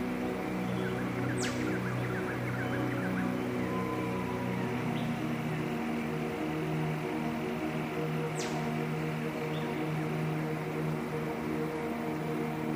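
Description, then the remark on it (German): In a jungle, a steady, dense rush of mighty masses of water fills the scene, with a couple of sharp, high bird calls and faint scattered chirps rising above it. No voices are heard. “Dazu das Rauschen mächtiger Wassermassen, das sich wie ein Teppich aus Tönen in das Zwitschern und Zirpen um uns herum entflechtet.”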